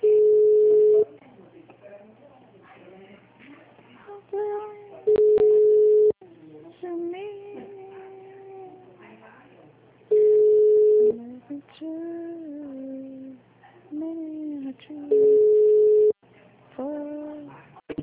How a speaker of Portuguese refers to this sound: telefone.